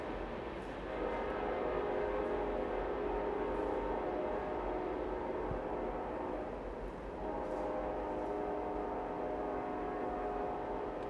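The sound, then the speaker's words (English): A train engineer blows the train whistle in long, sustained blasts over the steady rumble of a passing train, loud, with a brief dip midway before the tone resumes. “That engineer likes that whistle, doesn't he?”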